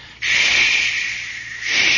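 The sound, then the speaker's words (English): Icy wind hisses and whistles through radar dishes above a vessel's bridge and conning tower at sea, in a steady, high-pitched rush that starts abruptly, eases slightly in the middle, then swells louder again near the end. No one speaks. “And you could hear that wind hissing and whistling through those radar dishes just above us.”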